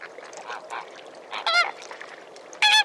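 Geese honk loudly in two strong bursts, with softer bird calls chattering in between across an open outdoor space.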